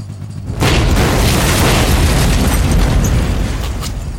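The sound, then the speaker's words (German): A hunting cabin blows up: a sudden, powerful explosion erupts after a brief quiet moment, followed by a sustained loud roar of blast and debris that rumbles on for several seconds. “Die Jagdhütte fliegt mit einer beeindruckenden Explosion in die Luft.”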